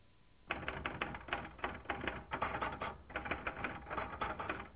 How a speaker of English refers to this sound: I don't know about you, but I'm one of those people who still manages to find a use for fossil technology, like the manual typewriter.